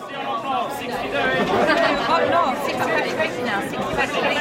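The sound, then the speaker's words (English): Dealers seated in the trading ring of the LME metal exchange shout over one another, a dense, steady wall of overlapping voices with no clear words and no pause for the whole few seconds. “While it might sound like chaos, the LME has strict rules.”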